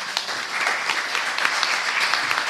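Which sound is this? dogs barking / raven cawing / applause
applause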